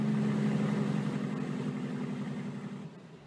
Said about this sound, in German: Mit meinen Brüdern und Schwestern fahre ich nun quer durch Indien in Richtung Meer. Viele LKW fahren wie wir auf der holprigen Straße hintereinander. Wir werden ganz schön durcheinander geschüttelt.